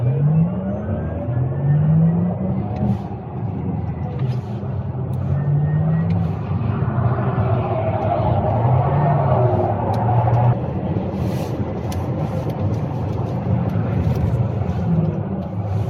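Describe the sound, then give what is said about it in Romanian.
A car engine revs and accelerates steadily and loudly, with rising and falling pitch sweeps as gears change, over a constant roar and a hiss like tires on a wet surface, driving on a race circuit soaked with water. “Hai dar să vedem ce demență a ieșit pe un circuit ud fleașcă, de apă mă nebunilor”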